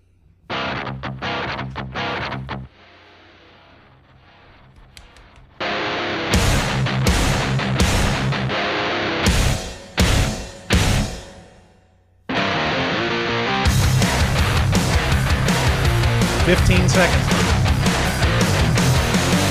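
A loud rock song plays with heavy distorted guitar and pounding drums, stopping abruptly a few times before kicking back in at full volume with dense, driving riffs.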